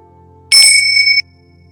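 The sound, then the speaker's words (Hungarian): A single bright, high-pitched bell rings out during a guided breathing meditation, with a sharp strike and a clear shimmering tone that sustains for under a second before cutting off, over a faint low background hum. “Ahogy kilégzel, és belégzel, és beengeded közben a csengő hangját.”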